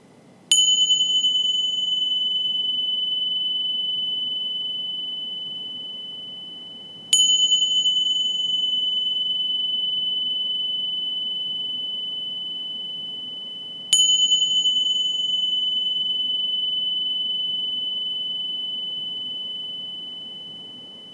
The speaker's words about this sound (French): Soyons attentifs à la respiration pendant la durée du son du timbre.